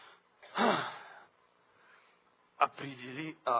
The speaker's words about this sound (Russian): Ну, я же громко дышу, да? Они все слышат.